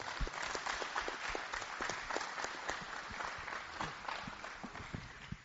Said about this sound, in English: Let's give them a big round of applause.